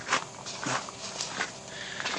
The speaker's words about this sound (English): We'll come through into the garden. So we have a gravel yard, which is what this noise is all the time.